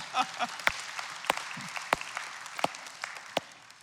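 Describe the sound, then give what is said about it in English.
An audience breaks into steady applause, a dense wash of many hands with a few sharper, louder claps standing out irregularly, and faint voices murmuring underneath. “Now this inheritance, yeah, you can clap if you want.”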